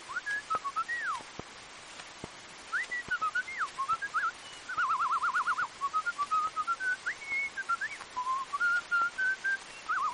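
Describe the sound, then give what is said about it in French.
Someone whistles an imitation of blackbird song: fluting, melodic phrases with slides and a quick warbling trill in the middle, clear, with no talking. “Le chant du merle.”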